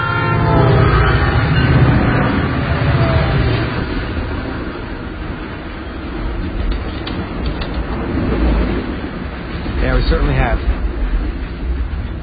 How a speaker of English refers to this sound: Freight trains are great, you know. I don't know if you've ever seen one pass by.